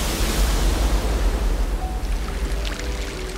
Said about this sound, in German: Doch mit einem Mal kracht schäumende Wellengischt herein und wirbelt die Wasseroberfläche mit ungeheurer Energie durcheinander.